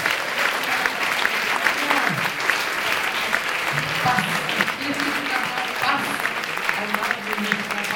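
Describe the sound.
Sustained, dense clapping from a sizable audience fills the whole stretch at a steady loud level, with a few faint voices murmuring underneath.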